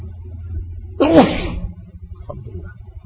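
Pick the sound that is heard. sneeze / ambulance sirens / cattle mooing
sneeze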